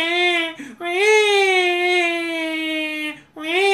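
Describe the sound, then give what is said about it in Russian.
A newborn baby cries in long, loud, drawn-out wails, pausing briefly for breath between them, alone with no other voices. “Он начинает плакать, кричать.”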